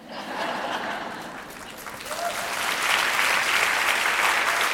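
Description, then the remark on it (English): An audience breaks into sustained applause, a dense wash of clapping that swells louder over several seconds and carries on steadily, with no voices standing out above it. “I gotta be honest, I wish that didn't get an applause.”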